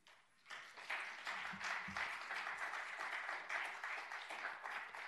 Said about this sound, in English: But you've held your applause, so you're welcome to applaud now.